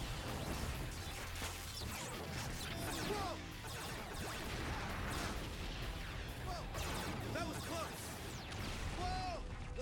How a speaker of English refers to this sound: I do like the kind of sonic sonic waves that come out of those explosions.